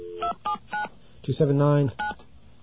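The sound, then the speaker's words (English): Three quick touch-tone beeps from a phone keypad as a number is dialed to identify the telephone switch, evenly spaced, then a brief voice, then one more beep, over a faint low hum. “let's get a dial tone.”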